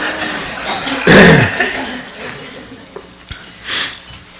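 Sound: coughing and throat clearing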